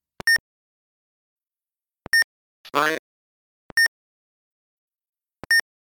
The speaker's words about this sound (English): With the German one, if you do the same thing, you get just a beep.